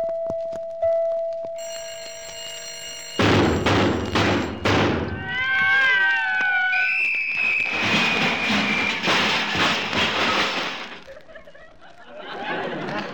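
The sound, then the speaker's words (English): An alarm clock that was given as a Christmas present goes off: a thin steady tone, then a loud, harsh clattering ring with warbling whistle-like tones layered over it, lasting several seconds before dropping off near the end. “I'm a little disappointed with that alarm clock you gave me last Christmas.”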